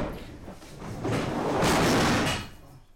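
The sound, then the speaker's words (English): Tables being stacked by a man in a small classroom at the New Hope Baptist Church: a heavy scraping and clattering that builds over a couple of seconds, with dull thuds mixed in, then stops abruptly. No one speaks. “He drags the chairs into rows along the back of the room, but his plan to stack the tables does not go as well.”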